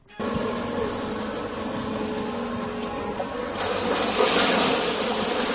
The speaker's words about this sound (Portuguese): la excavadora anfibia en las obras de dragado de la ría de Burgo